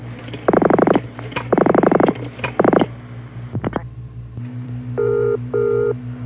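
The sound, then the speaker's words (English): A British telephone ringback tone on a payphone line in London, England, after a number is dialed: its steady electronic purr coming in the characteristic double bursts, preceded by a few buzzing warbling tones and faint clicks over a low hum. “Okay, it's ringing. This is the way it rings in England.”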